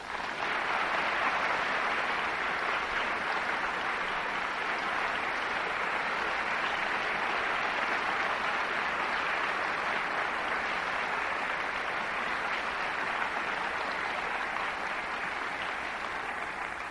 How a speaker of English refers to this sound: Don't applaud, I haven't said anything yet.